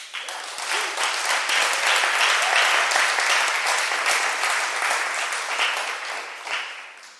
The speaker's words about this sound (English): Can we appreciate our pastors with a better hand clap? Are you clapping or you are scratching hands? Can we do better than that? Can we clap better?